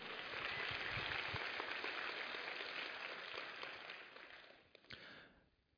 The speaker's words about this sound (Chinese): 若你期待恢复与更新要在你生命当中发生，拍手来赞美主。